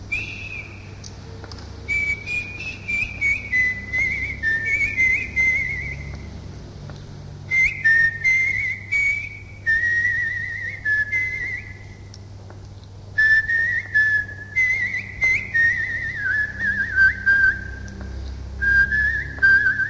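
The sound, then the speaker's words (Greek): A person whistles a lilting folk tune, the Genitsaro and the Boules, the melody flowing in short phrases with brief pauses, over a low steady background hum and no talking. “Θα σου σφυρίξω λιγάκι.”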